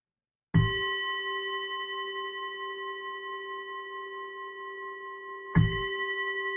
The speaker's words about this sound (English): I'm going to ring the bell again.